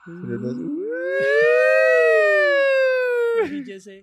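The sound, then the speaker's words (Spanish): A single loud ambulance siren-like wail, most likely a voice imitating it: the tone rises steeply, holds steady for about three seconds, then drops off abruptly, with brief voices at either end. “No, ¿la ambulancia en qué casa es?”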